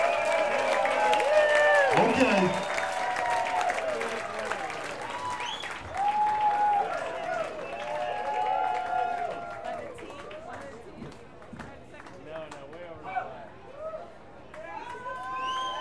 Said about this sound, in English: Give us a hand, we're trying to. I wanna see y'all clapping in the back.